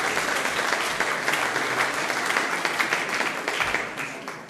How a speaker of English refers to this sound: applause for our search as well.